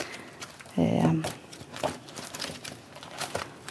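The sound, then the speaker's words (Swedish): Pages of a book being flipped while someone looks something up in it, several soft papery swishes and rustles in an irregular rhythm, with a brief hummed voice near the start. “Och så står du där en liten stund medan jag bläddrar upp här i boken.”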